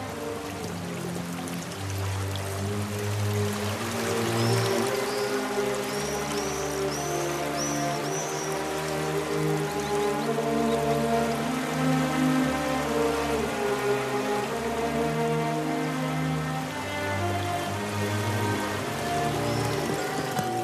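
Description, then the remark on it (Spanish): Water of a branch of the Nile in Egypt rushes and splashes steadily throughout, a continuous wash mixed with a layered tonal hum and a few faint high chirps, with no voices. “Es el Nilo. Un afluente, uno de sus ramales.”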